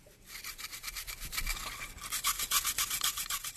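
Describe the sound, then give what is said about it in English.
A toothbrush scrubs dirt and rust off artifacts in a lab, worked by a team of students, in brisk, quick, rhythmic back-and-forth strokes, fairly loud, with no voices. “A team of students in the lab scrubs dirt and rust off of artifacts with a toothbrush.”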